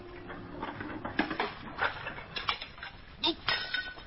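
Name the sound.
dishes clinking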